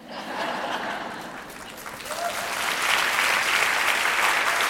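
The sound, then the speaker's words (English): An audience breaks into applause, a dense wash of clapping that swells louder after a couple of seconds and holds steady, with a few faint chuckles mixed in. “I gotta be honest, I wish that didn't get an applause.”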